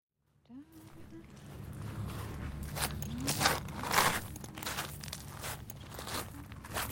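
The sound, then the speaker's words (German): Crunching footsteps on gravel walk forward at a steady, unhurried pace, taking the first steps into a cypress-lined garden labyrinth on the island of San Giorgio Maggiore in Venice, over a low constant hum of the surroundings, with no talking. “Ja, jetzt mache ich die ersten Schritte im Labyrinth.”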